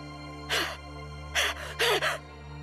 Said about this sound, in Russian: Что такое? Ты тяжело дышишь.